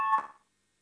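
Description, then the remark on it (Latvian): An electronic voting bell in a parliament session sounds a short ringing signal once, calling a vote on a faction's proposal, and fades away within half a second, followed by silence. No one speaks. “Lūdzu, zvanu, balsosim par pirmo frakcijas Saskaņa iesniegto priekšlikumu.”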